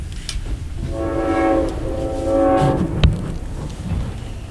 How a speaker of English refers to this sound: There's a train.